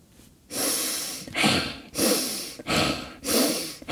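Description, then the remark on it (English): Loud, exaggerated breaths, alternating inhales and exhales in a steady rhythm, about five or six heavy airy pulses with brief pauses between, no talking. “See, I'm really good at breathing.”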